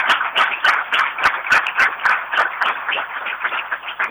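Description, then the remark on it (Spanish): An audience applauds steadily, many hands clapping at once in a dense, continuous patter with a few sharper claps standing out, fairly loud and sustained throughout. “Y hoy, digamos, lo miraba y era una cosa de loco, es increíble, digamos, hoy ya lo tenemos, así que es algo que hay que aplaudir, digamos.”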